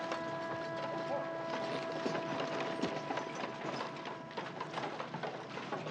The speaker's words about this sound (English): dismounts and leads the horses over to him.